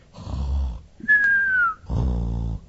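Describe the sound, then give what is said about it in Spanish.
A voice mimics a man snoring, cartoon style, portraying the biblical King Saul asleep: a rough, low rumbling snore, then a thin whistle sliding downward, then another long, buzzy snore, fairly loud. “bien dormido, roncando el hombre este, y David estaba allí, a su lado.”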